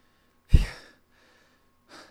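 A sharp, close gasp bursts out, trailing off into a ragged exhale, followed after a pause by a softer, shorter breath, like someone catching their breath in relief.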